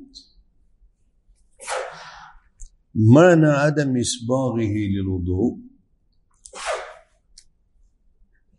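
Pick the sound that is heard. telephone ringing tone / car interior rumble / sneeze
sneeze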